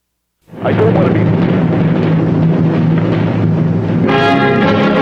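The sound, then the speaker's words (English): A loud bell jingle bursts in abruptly and rings on continuously, with dense layered chiming tones that turn brighter near the end. No one talks over it. “No, don't play the jingle.”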